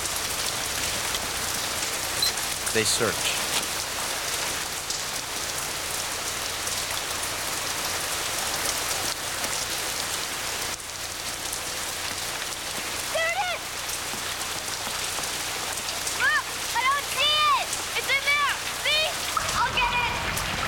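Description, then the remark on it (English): Steady rain patters on a hard surface of a deserted street throughout, a dense continuous hiss with scattered drops, while a voice speaks briefly over it. “Well, let's go back in the morning, it's raining!”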